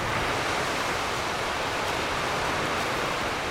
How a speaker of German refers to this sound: Und wenn ich das Mikro Richtung Fluss halte, dann hört man schon, das ist schon kein kleines Flüsschen, sondern da ist schon ein bisschen Strömung dahinter.